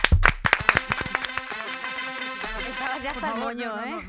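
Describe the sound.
A short burst of loud, rhythmic clapping welcoming guest Isabel Coixet on the show Estirando el Chicle, roughly a second and a half of sharp hand claps, then gives way to lively voices that carry on over it.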